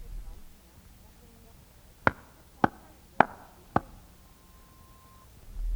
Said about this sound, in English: Now we will clap very, very softly. Clap 4 times with me softly.